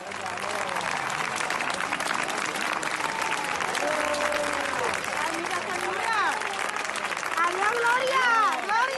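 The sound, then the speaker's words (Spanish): A crowd of doctors, nurses and workers at IFEMA in Madrid applauds steadily throughout in farewell to the last four discharged coronavirus patients, dense clapping mixed with shouts and cheering voices rising above it, growing a little louder toward the end. “Aplausos que se han mezclado entre lágrimas y gritos de ánimo para seguir luchando contra el virus.”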